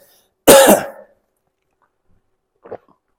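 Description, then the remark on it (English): A preacher loudly clears their throat during a sermon in one harsh, raspy burst, followed after a pause by a brief, much fainter second clearing. No one speaks. “Just excuse me while I have this toad or frog in my throat.”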